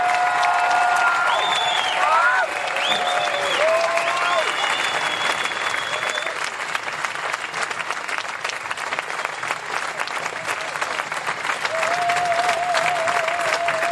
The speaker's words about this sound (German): Ja, der Applaus ist wirklich für diese Menschen und es sind nicht die Waldbesetzer, es sind die Waldbewohner und die Waldschützer.